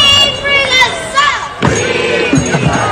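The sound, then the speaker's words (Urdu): Young students chant "Free, free Palestine" slogans in support of Palestine together in a loud, rhythmic group shout, voices rising and falling over a steady crowd murmur that fills the whole clip. “Free free فلسطین کے نعرے جو ہیں، یہ دیکھیے چھوٹے طلبہ ہیں جو نعرے لگوا رہے ہیں اور خود بھی نعرے لگا رہے ہیں.”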